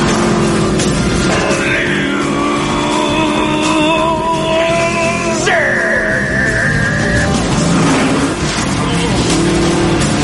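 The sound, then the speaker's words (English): A monster truck's engine roars loudly for the whole stretch in a film chase scene, as the truck chases someone down and pulls up alongside him, its droning pitch climbing and then dropping sharply partway through as it revs, with rumbling movement underneath. “he's chasing him down in a monster truck, and he pulls up alongside of him, and this is a little brief cut from the scene, and we'll get the line here.”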